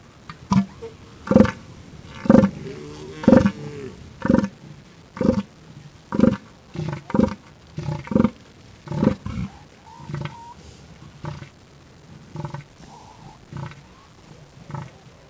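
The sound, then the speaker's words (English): A male elephant seal gives a series of deep, rhythmic, pulsed calls, loud guttural bursts repeating roughly every half second to second, unaccompanied, fading slightly toward the end. “She'll tell us about the mysteries of elephant seals.”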